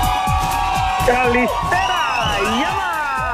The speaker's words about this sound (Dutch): Ja, ja, ja, daar is ze. Hoor eens wat een applaus.